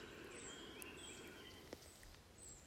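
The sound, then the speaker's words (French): Faint birdsong from the birds of a forest, thin high chirps and trills scattered over a soft, steady outdoor hush, with no voices. “Et les silences seront ponctués de leur chant.”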